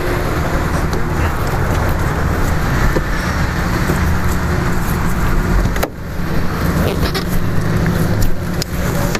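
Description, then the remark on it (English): A taxi cab pulls up, its engine and tires producing a loud, steady rumble with a broad hissing wash, briefly dipping once partway through. No voices are heard. “I think the cab is actually here.”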